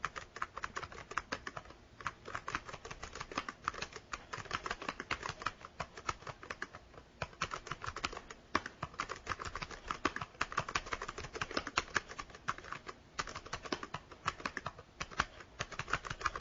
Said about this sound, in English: So what I want to do is let me show you also the keyboard on here. Okay, let me turn this off real quick. This is the Apex keyboard.